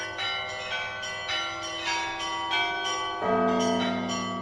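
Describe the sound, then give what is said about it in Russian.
Church bells peal continuously in a dense, overlapping ring, with repeated strikes about every half second layered over a sustained resonant hum, loud, with no voices, during an Easter night cross procession around the church. “Крестный ход совершается вокруг храма при непрерывном колокольном звоне и пении «Воскресение Твое, Христе Спасе, ангелы поют на небеси, и нас на земле с подоби чистым сердцем Тебе славите».”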